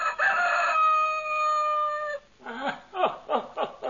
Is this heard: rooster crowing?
yes